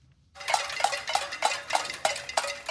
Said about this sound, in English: Hundreds marched in the streets of the capital of Havana overnight, banging pots, burning trash, and shouting, "Turn on the lights."